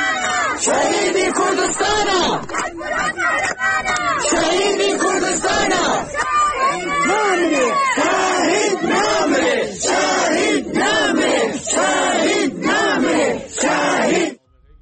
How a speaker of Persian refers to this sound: اینجا روستایی در کامیاران، شعارهای ضد حکومتی در مراسم 40 برهان کرمی. فریاد می‌زنند کاک برهان قهرمان است، شهید کردستان است.